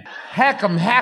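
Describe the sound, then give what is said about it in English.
A voice speaks a short word, then mimics coughing twice with voiced, exaggerated hacking sounds, clear rather than a real cough. “Let me try. I'll cough.”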